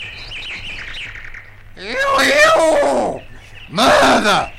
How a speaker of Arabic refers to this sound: ما إن انتهى الإخوة الثلاثة من عملهم وعادوا إلى غرفتهم حتى أصبح الصباح، وراح الديك يصيح صياحه المعروف.